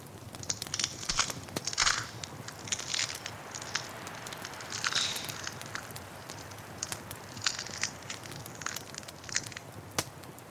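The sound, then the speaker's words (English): A fire crackles steadily with irregular sharp pops and snaps over a soft, continuous hiss that swells in brief bursts. No voices are heard. “In the heart of the fire, a form begins to appear.”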